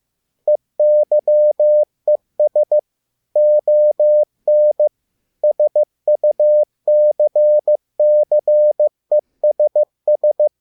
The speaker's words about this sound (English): That was Eyes on Success in Morse code.